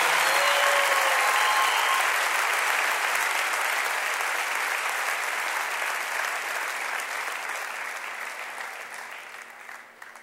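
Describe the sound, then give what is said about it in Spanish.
A crowd applauds steadily, dense clapping filling the space from start to finish, then gradually thinning and fading toward the end. No one speaks over it. “Un aplauso para”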